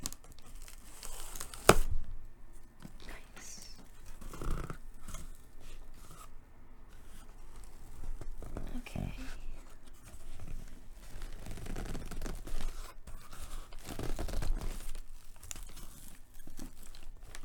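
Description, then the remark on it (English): Purple wrapping paper being torn and crumpled, with a sharp rip near the start followed by continuous crinkling and rustling bursts throughout, no voices. “So it seems like they have it wrapped in some purple wrapping paper.”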